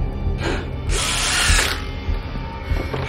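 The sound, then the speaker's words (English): A power drill whirs in short bursts, driving screws through a plank across a basement door, with a brief burst near the start and a longer, louder run in the middle, amid ratcheting mechanical clicks. “She grabs a drill and some screws. She screws the plank across the door”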